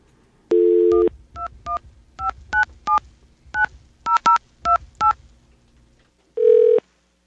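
A telephone number in Philadelphia is dialed: a short burst of dial tone, then about ten quick touch-tone beeps in an uneven rhythm, followed by a single steady tone. No one speaks.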